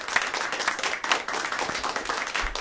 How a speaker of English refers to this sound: So round of applause for Cecile Richards of Planned Parenthood